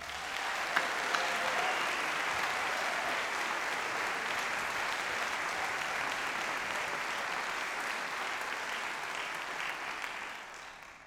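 Sustained audience applause for the students of the Cole Conservatory, a dense steady wash of clapping hands lasting about ten seconds before tapering off at the end.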